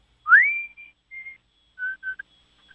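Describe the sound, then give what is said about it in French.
A person whistles a birdlike song alone, opening with a loud rising swoop into a held note, then a shorter note and a few quick chirping blips, clear. “c'est pas la première fois que tu nous appelles pour siffler”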